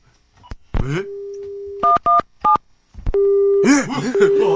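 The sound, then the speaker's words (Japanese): A handset clicks, a steady dial tone hums, then three quick keypad tones beep before a flat line tone returns, continuing faintly beneath a voice that starts talking near the end. It is a call to NTT to check the time in the last minute of the year, and the line is busy. “すごい 話中 なんで みんな聞いてるんですかね。”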